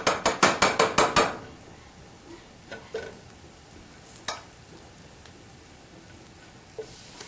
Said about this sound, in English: So gently take each piece of tempeh, and you're going to want to tap it, shake off any excess flour. And it's sizzling around the edges, that's just what we want.